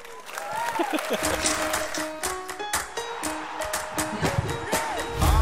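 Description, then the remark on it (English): A loud, unbroken crowd din at EA Play, a gaming event where the FIFA 18 World Cup live tournament is about to begin, with scattered sharp claps and overlapping shouting voices running steadily for the whole stretch. “Damn, that crowd is brutal.”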